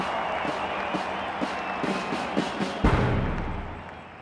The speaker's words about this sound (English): With China in a mess after years of nationalist rule, Mao is greeted as a hero by the people. He allows himself a smile as he takes in the crowd's applause.